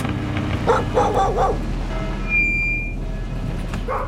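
Several dogs bark in the background, heard from a car going from house to house between Coimbra and Mangualde: a cluster of short yaps and woofs early on, then a few more scattered barks over a steady low hum.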